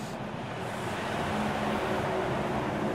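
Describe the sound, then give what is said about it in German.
A heavy truck loaded with tree trunks roars past on the main street of the town of Thomas, which is officially a highway; its deep engine drone and broad road noise swell steadily over a few seconds with no one speaking. “Ein Laster mit Baumstämmen dröhnt vorbei.”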